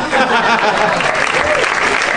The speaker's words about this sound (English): Did you hear how loud they clapped for me after she came out? Oh, the applause kept going for you, essentially. She never even got her moment, really.